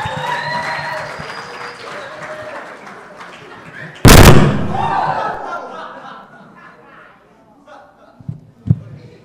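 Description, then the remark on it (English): A loud, sharp thump cuts in, followed by a burst of audience applause for two school guards that swells briefly and then fades out, with murmuring voices and a few faint knocks near the end. “Hear it for the two school guards.”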